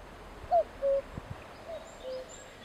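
A cuckoo calls its two-note 'cu-coo' twice, soft, the second pair fainter than the first, over a quiet background hush.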